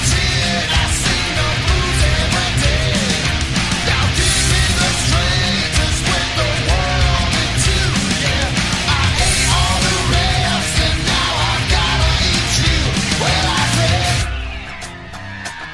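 A loud rock song plays steadily, with a dense wall of distorted guitars, pounding drums and a wavering vocal-like melody, before cutting down sharply to a quieter tail in the final second.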